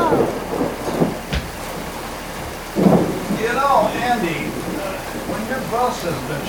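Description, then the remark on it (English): Heavy rain pours down steadily with rumbling thunder and one sharp crack near the start, while voices talk faintly beneath the downpour. “All our rain is back. Listen, they're coming down.”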